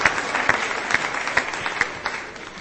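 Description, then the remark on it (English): A crowd claps steadily for a participant, a dense patter of many hands applauding at an even, moderate loudness that holds throughout without any voices. “Wow, big round of applause”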